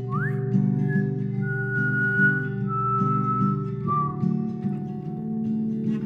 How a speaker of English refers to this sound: Give a whistle.